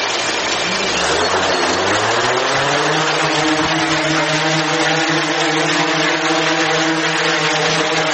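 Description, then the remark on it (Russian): A small civilian drone with a vyshyvanka (embroidery) design is launched indoors in the office of DJI company director Dmytro Hnab; its motors spin up, the buzzing pitch climbing over the first few seconds and then holding a loud, steady whine with a broad airy rush, with no talking. “Директор компанії DJI Дмитро Гнаб запускає у своєму офісі дрона-вишиванку.”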